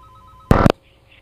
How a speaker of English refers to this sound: Oh, we got a phone call, though. Uh-oh. A caller already. Let's grab this phone call and see what they got.